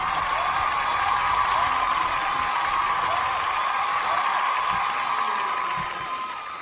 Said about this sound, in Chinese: 来 来，咱们 接下来我们把这个舞台交给你啊，掌声 有 请。